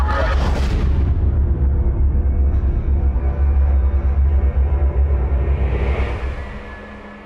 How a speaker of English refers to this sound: So I'm sitting here about 40 minutes ago and we're going to break and there's sonic booms, the building shakes.